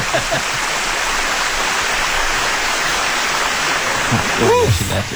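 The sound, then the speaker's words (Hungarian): A sustained burst of dense applause, a steady wash of clapping that holds at the same loud level throughout, with a brief voice rising over it near the end. “Jej, és kitörő tapsia.”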